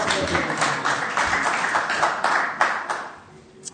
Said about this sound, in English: So if you want to, you know, say thank you for the sermon this morning, just do it now. Do it now. Round of applause or something. Yeah, it'd be great.